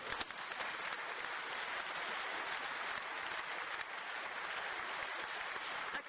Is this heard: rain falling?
no